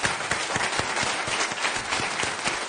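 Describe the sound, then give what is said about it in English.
Sustained applause from an audience after a statement about reducing the number of people in the world by 50%: dense, steady clapping that fills the whole stretch, with a few sharper individual claps standing out in a loose rhythm. “And the motherfucking audience actually applaud the deaths of millions, do you under fucking stand yet?”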